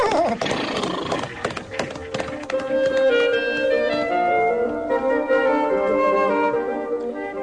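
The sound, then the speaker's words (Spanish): A horse whinnies loudly and at length, its wavering, high-pitched neigh rising and falling, after a brief burst of clattering hoofbeats at the start. “Y de usted, amigo caballo, yo me escapo.”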